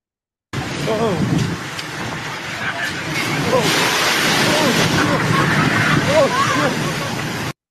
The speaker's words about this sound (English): West Coast weather has caused a surge in waves along the coast.